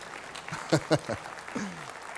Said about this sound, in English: Go ahead. If you're going to clap, come on, let's do it.